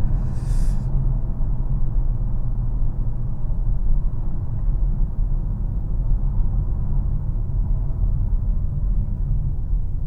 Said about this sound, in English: It's really reluctant to shift on that, on the Sport Plus. It just wants to wring the car out to maximum before it gives you a gear.